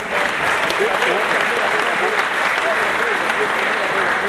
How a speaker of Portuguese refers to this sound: Uma salva de palmas pra quem tá vindo pela primeira vez.